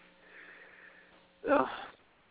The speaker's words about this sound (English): Yeah, I keep yawning really, really, like, big. I feel like my jaw is, like, almost going to fall out. I yawn too big.